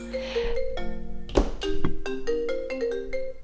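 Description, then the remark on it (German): A mobile phone rings with a bright, repeating electronic melody of short tonal notes, clear, with no one talking over it. “Hat gleich noch mein Telefon geklingelt.”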